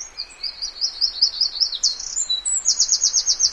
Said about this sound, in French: Il est pas grand comme une grive musicienne. Mais il chante presque aussi fort